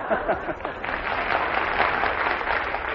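crowd cheering and applauding

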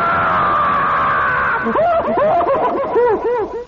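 woman screaming

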